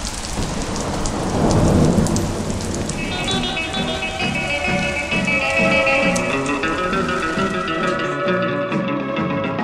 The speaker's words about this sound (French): Quelques touristes s'arrêtent un instant devant le portrait de Jean-Paul II. Ils sont trempés. Refuge pour quelques instants, le temps de laisser passer l'orage qui se déchaîne sur Rome.